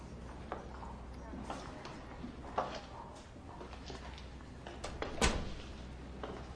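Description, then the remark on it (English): A few soft, scattered knocks like footsteps as a woman steps into a room, then a firm thud of a doctor closing the door behind her near the end, all over a steady low hum. “She steps into the room, and the doctor closes the door behind her.”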